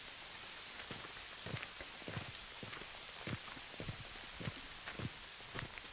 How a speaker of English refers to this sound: No, no towels. It's raining.